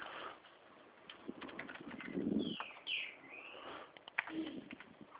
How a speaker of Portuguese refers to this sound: O passarinho tá cantando aí, hein? Passarinho é bom, cara. Caraca. Passarinho canta muito, cara. Tem café, canário, né? Qual que passarinho é esse? Esse tá cantando o subiado, é o trinca-ferro.